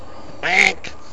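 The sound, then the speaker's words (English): A single loud, nasal duck quack rings out, followed by a brief fainter call, over quiet outdoor background. “We're just looking at these beautiful ducks.”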